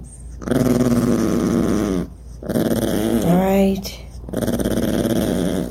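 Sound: dog growling and whimpering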